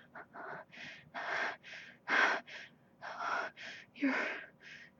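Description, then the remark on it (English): Loud, heavy breathing, a rapid series of about ten ragged, gasping breaths in quick succession, with no voices. “God, I hear how loud your breathing's getting.”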